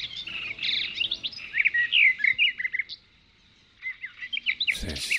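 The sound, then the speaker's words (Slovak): Several birds chirp and sing in quick, overlapping bursts of high tweets, pausing briefly before the trilling resumes, ending with a short soft rustle. “Čo, pozorovanie prírody? Pozorovanie vtákov.”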